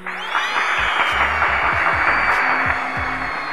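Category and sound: crowd, round of applause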